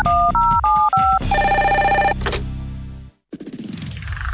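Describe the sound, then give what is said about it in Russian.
A loud electronic telephone ring from a line taking listeners' calls alternates rapidly between two tones, then swells into a dense, sustained ringing chord that cuts off briefly before resuming, with no voices present. “тот, который вы услышите прямо сейчас, для приема ваших телефонных звонков.”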